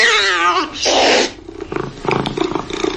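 A cat lets out a loud, drawn-out wavering meow, followed by a short harsh yowl, before a voice starts talking.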